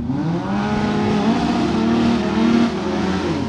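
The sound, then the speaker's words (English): Race car engines roar at Lebanon Valley Speedway, a dirt track off Route 20: a loud continuous growl with layered harmonic whine that swells slightly and holds steady throughout, with no voices. “Lebanon Valley Speedway sits just off Route 20, admittedly in the 12195 zip code.”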